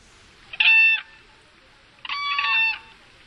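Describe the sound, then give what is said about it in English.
Two loud, brassy whooping crane alarm calls, each lasting under half a second to nearly a second, with a strong harmonic, trumpeting tone and a short pause between them; no voices. The call carries for miles and is distinctly different from a sandhill crane's. “So here's what a whooping crane sounds like.”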